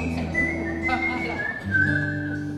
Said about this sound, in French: je siffle aussi.